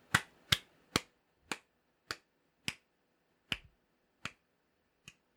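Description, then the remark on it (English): A single person claps about nine times on their own, sharp claps that start quick and gradually slow and soften toward the end. “That's me clapping very enthusiastically for you, Crazy Sunshine Podcast people.”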